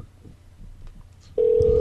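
A telephone number being dialed: after a quiet stretch of low rumble, one steady mid-pitched phone tone cuts in abruptly and holds loudly until the end, with no talking.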